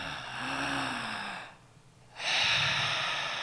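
A long, breathy open-mouthed exhale with a hazy hiss like fogging a mirror, a short pause, then an equally airy inhale drawn back in through the open mouth, as part of a guided breathing exercise. Fairly loud, with no talking.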